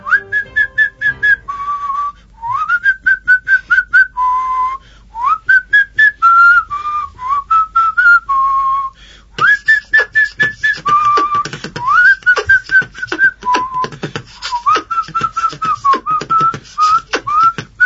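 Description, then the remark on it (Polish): Several people whistle a wandering tune at the microphone in a studio, with no particular melody, sustained notes sliding up and down over about eighteen seconds, some breathy and uneven, no talking. “spróbujcie zagwizdać, a ksiądz Bartek zadyryguje tym gwizdaniem”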